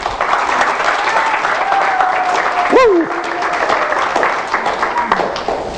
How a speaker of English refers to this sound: All right, let's give a wonderful hand of applause to all those watching by internet today.